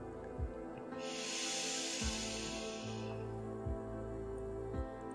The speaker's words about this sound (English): Breathe out Sa. Breathe in Ram. Breathe out loud Sa.